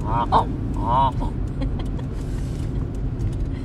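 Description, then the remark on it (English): A couple of short, nasal goose honks ring out in the first second from geese at Dead Creek Wildlife Management Area, set against a steady low rumble of car and road noise that carries on after the calls stop. “Oh, look, there's geese.”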